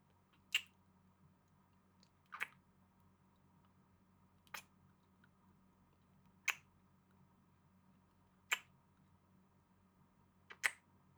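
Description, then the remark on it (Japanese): Six wet kissing smacks, spaced about two seconds apart, each a short moist pop, against a faint steady background hum with no talking. “まずはキスから。”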